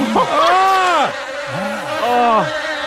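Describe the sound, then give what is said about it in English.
Buzzing bees drone loudly in wavering sweeps, their pitch rising and falling in about three passes, with no talking. “4 tiny bees.”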